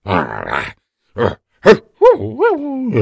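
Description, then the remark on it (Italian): A large wolf growls in several short, rough bursts separated by brief pauses, then gives drawn-out wavering whines that rise and fall, fairly loud. “Era quella la folta pelliccia di un grosso lupo che stava proprio lì a sonnecchiare.”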